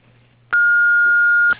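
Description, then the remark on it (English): A single steady, high-pitched electronic beep sounds for about a second, starting and stopping abruptly over a faint low hum: the answering machine tone of Perfect Turf Landscape Services, signalling callers to start recording a message. “After the tone, if you'd be kind enough to leave a detailed message along with your name and your phone number, we'll be sure to get back to you just as quickly as we can.”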